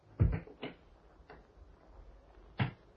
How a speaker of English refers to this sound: Listen as the clock moves on.